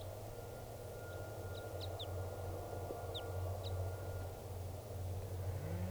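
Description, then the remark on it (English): A wild type 2 crossbill, up in the top of a tall tree, gives a handful of short, high chipping calls in two loose groups, fairly faint over a steady low rumble of traffic. “Bird's not calling very much, but that is him, the wild bird, type 2 there.”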